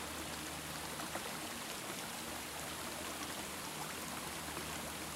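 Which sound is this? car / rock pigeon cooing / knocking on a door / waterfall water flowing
waterfall water flowing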